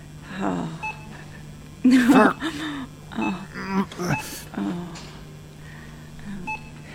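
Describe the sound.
Short electronic beeps from a self-checkout scanner chirp a few times at uneven intervals, fairly quiet beneath muffled voices and store background noise.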